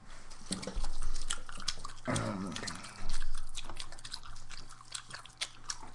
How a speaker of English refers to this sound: Oh, powerful gum. Now we're going to make chewing noises. This is the chewing noises portion of the program.